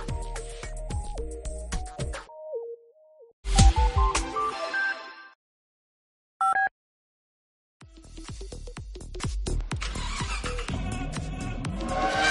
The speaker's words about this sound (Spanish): Y 51, suena la sintonía del mundo del motor.